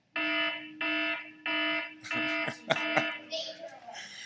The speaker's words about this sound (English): I wasn't really sure what this one was. I just remember it being in Jurassic Park movies. I think they had that alarm going off when the dinosaurs got loose. That's probably why I don't really recognize it.